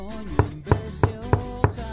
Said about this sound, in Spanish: Tocan la puerta. Voy a ver quién es